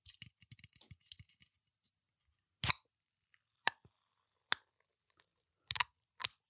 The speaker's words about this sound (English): So hold on, I need a little drink. Sorry. First ASMR of 2023. You ready for this? You ready for this? There we go. For the fans of can ASMR. Can of water, sparkling water.